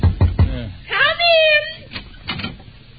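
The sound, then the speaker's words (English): Three quick, solid knocks on a door in a steady rhythm, fairly loud, followed by a person starting to speak. “I'll knock on the door.”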